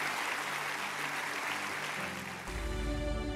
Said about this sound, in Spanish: Y todos dicen amén. Vamos a dar un aplauso. Se puede tomar su asiento.